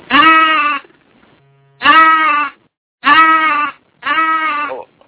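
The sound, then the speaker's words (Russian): Goats bleat loudly, four strong wavering calls in a row, each about a second long with short pauses between, no voices around them. “Чего это там, козы какие-то, говорят?”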